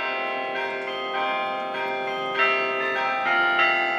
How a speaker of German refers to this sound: Auf dem Weg von der Siegessäule zum Lager der Extinction Rebellion-Bewegung am Kanzleramt läutet der Carillon. Das Glockenspiel lässt deutsche Volkslieder ertönen, unüberhörbar für die 1000 Aktivisten, die hier kampieren.